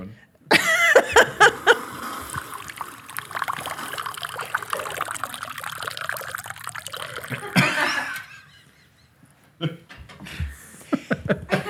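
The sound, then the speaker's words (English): Water pours steadily for about seven seconds, a continuous splashing rush that then stops. A few brief, soft sounds follow near the end. “I'm going to sit here quietly and pour some more water.”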